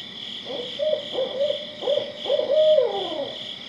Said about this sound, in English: And the last owl that I'm going to feature tonight is the barred owl, which is one that a lot of us here in this area because they're very vocal and they call year-round. So if you live near the woods, you're likely to have heard barred owls.